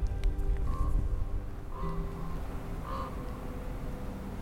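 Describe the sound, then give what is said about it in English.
A raven calls three times from a tree overhead outside a prison, short hoarse croaks spaced about a second apart, against a steady outdoor background hum. “That's Greg's raven.”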